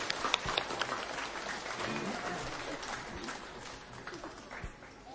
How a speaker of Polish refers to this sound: brawa, duże, brawa, duże.